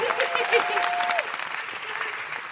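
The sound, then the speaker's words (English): Sustained audience applause for performer Jess Robinson, a dense crackle of many hands clapping at steady loudness, with a brief whistle-like tone in the first second before the clapping continues on its own. “Huge round of applause for Jess Robinson.”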